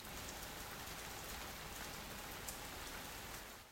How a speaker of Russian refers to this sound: Полил мелкий моросящий дождь.